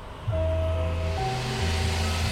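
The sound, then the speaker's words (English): A car horn honks in loud, sustained, low blasts that run almost back to back as a car stops at a street corner, with a steady rumble of traffic underneath and no voices. “And right when you're standing on the corner, contemplating your next move, you hear the beep beep.”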